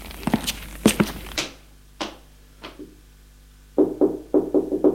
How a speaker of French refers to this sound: À l'étage, le directeur va frapper à la porte de la chambre